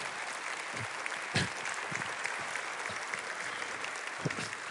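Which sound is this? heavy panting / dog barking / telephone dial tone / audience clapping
audience clapping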